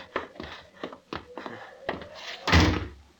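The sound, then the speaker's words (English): A run of dull, evenly spaced thuds, like steps on wood, as someone goes up the steps to a house, leads up to a door being opened and then shut with a heavier, louder knock near the end. No one speaks. “Up the steps. That's the boy. Open the door.”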